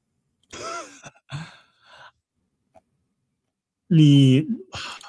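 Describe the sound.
A person yawns, drawn-out and voiced with a rising then falling groan, followed by breathy sighs and a second, louder yawn near the end.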